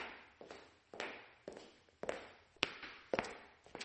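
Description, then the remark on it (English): Steady footsteps of someone walking, played as an example of radio play sound effects, about two per second at an even pace, each step a crisp, moderately loud thud that fades quickly, with no talking. “Footsteps. I hear footsteps. I hear someone walking.Someone is knocking, Knocking on a door.”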